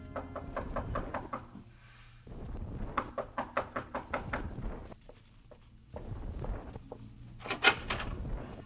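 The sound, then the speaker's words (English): A police officer knocks on the wooden door of a numbered room in a tenement hall on 110th, repeated sharp knocks in quick bursts, pausing between volleys, with a few louder raps near the end; no one speaks. “You bring yourself to the wrong door, Senor Police. Go skin your knuckles in another place.”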